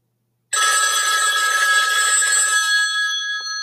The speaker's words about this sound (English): The phone rings.